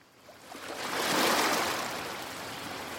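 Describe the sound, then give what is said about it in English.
Atlantic breakers break and wash up a five-mile sandy beach on an island in a broad hissing surge that swells and slowly recedes, steady surf noise filling the background with no voices present. “It's an island, so you have to take a little boat, and it's 5 miles of sand and Atlantic breakers crashing.”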